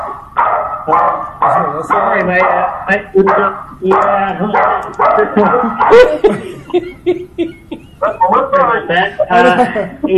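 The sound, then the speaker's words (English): A dog barks and yaps repeatedly, loud, excited bursts coming in quick, uneven succession for about ten seconds with only brief pauses between them. “my dog doesn't like that idea.”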